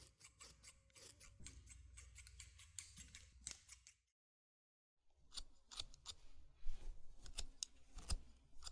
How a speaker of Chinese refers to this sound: 趁着头发还有点湿，可以用剪刀打理一下刘海。